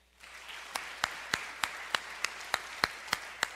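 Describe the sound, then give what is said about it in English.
A church audience claps together during a sermon at the preacher's request, in a steady, even rhythm, about ten sharp unison claps over a softer wash of scattered applause, with no voices. “I want you to clap if you will admit to having voices in your head.”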